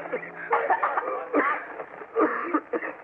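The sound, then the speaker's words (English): A man coughs in harsh, racking fits, with four or five rough bursts close together and short strained breaths between them, with no talking. “Those terrible, racking coughs that seemed to be tearing him to pieces.”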